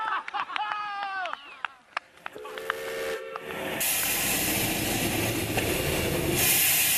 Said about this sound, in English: Yeah, what we're looking at here is it's a 1909 steam traction engine built in England by a company called Foden's. It's the forerunner, really, to modern tractors. It's steam-driven.